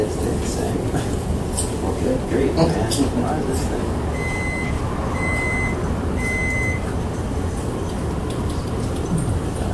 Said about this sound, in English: I was learning about BIOS peep codes.